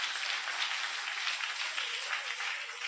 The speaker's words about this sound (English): You know, you can clap your hands.